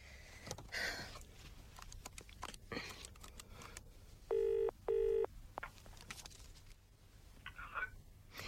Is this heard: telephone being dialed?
yes